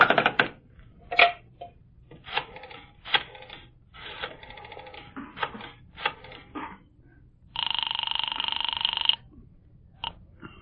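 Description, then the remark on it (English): A telephone handset clatters as it's picked up, followed by a series of quick dialing clicks and rattles, then a steady buzzing tone for about a second and a half, ending with a single click. “Use the other phone.”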